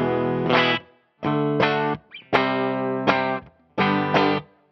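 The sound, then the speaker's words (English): Electric guitar on the bridge pickup plays bright, trebly chords with a slightly driven edge, strummed in short bursts separated by brief gaps, moderately loud and alone without any talking. “Let's see how bridgey we get.”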